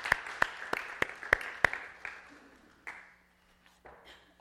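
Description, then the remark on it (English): A single person claps their hands in a steady rhythm, about seven sharp, fairly loud claps, followed by a few softer, scattered claps as it trails off. No one speaks. “I'll clap.”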